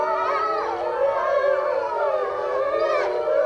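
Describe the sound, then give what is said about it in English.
Several wolves in an enclosure howl together in rising and falling overlapping voices, while a steady air-raid siren drones underneath throughout. The chorus is loud, continuous and unbroken, with no talking. “These regal beasts in an enclosure sounding a chorus of the wild to the tune of human war alarms.”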